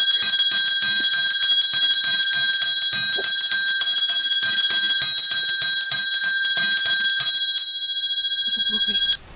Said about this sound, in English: Yes. Let me ring the bell for me.